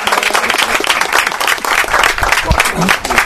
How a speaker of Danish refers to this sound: Så på den baggrund vil jeg på talrige opfordringer opfordre til, at vi klapper af panelet. Tak for jeres indsats.